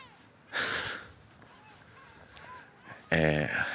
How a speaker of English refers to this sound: You can probably hear the seagulls above me now. Yes, I'm outdoors again. I'm in my office.